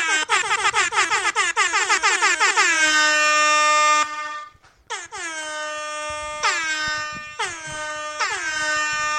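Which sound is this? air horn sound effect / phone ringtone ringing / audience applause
air horn sound effect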